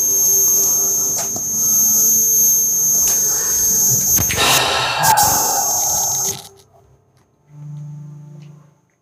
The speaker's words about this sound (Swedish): Telefon.